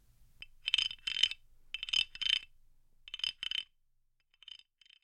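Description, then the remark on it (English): A wooden scraper carved to look like a cricket, played by scraping like a rasp, rasps out a cricket-like chirp in quick paired bursts, bright and buzzy, pausing between groups, then two fainter chirps trail off at the end. No talking. “This one is meant to sound like a cricket, and it's even carved wood to look like a cricket.”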